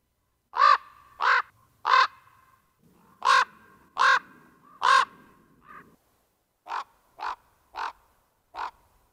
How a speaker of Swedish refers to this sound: Och Nu kommer ni att få höra hur en korp låter.